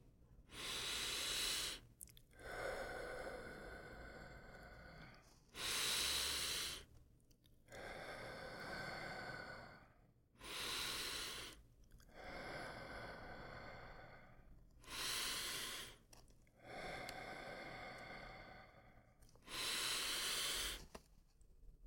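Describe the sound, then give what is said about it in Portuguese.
Five slow, deep, full breath cycles, each a long airy inhale followed by a forceful, rushing exhale, repeating in a steady rhythm with no talking. “Faça 5 respirações completas, respirando.”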